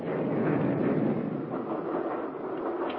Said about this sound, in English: The train's leaving, so I guess we'll have to get off.